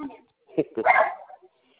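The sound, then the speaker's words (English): Small dogs bark in a brief, excited flurry: a couple of sharp yaps followed by a longer run of overlapping barks, moderately loud, fading out within about a second. “all they do is bark.”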